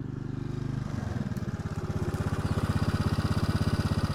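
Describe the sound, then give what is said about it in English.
Spike's speedy black motorbike starts with a low rumble, then settles into a fast, rhythmic putter that grows steadily louder as it approaches, heard on its own with no voices. “Here comes Spike on her speedy black bike.”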